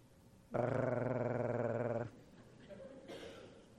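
A dog growls loudly in one sustained, rumbling burst of about a second and a half, then quieter background sound follows.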